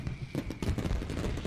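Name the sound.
fireworks exploding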